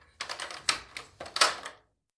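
Keys fumble and jingle in a few irregular metallic rattles, ending with a louder, heavier click of the heavy old lock of a massive old wooden door turning. No one speaks.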